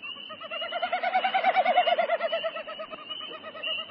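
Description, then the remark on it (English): A bird's winnowing, made in flight as the wind vibrates the two outer tail feathers on each side of its spread tail, not a vocalization: a rapid, hollow, pulsing hoot that swells to a peak and then fades over a few seconds, with no talking. “Okay, that's the winnowing, and they make that sound by spreading their tail feathers, and that's the wind when they're flying, vibrating the two outer tail feathers on each side of the tail.”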